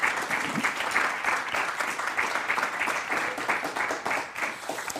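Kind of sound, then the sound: crowd, audience round of applause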